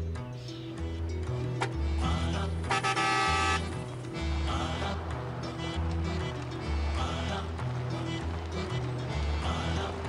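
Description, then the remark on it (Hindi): A car horn honks once in a loud, sustained blast lasting about a second, standing out over a steady, rhythmic low-pitched background that continues throughout. “अरे क्या है, बैठ तो रही हूँ, क्या हॉर्न में जाई जा रहे हो?”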